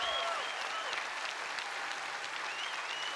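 Sustained applause from a large crowd honoring the teachers, coaches, administrators and homeschool teachers standing at the Oak Hills morning service, a dense, steady wash of clapping at a constant loud level, with faint whistles and cheers rising through it.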